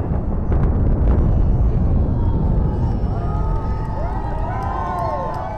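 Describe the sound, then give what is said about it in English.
A deep, continuous roar of two huge cooling towers at a former coal power plant in southern Massachusetts collapsing in an explosive demolition implosion in April, with a few sharp cracks early on, then cheering and whistling from a small onlooking crowd rising over the fading rumble. “They watched as explosives were used to implode two huge cooling towers at a former coal power plant.”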